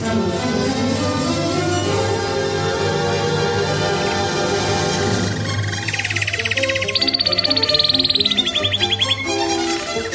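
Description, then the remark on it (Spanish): A short Spanish radio news jingle, 'El trino del conciso', with a steady musical bed, where a bright, rapid bird-like trill chirps loudly over the tones toward the end. No one speaks. “El trino del conciso es información confidencial.”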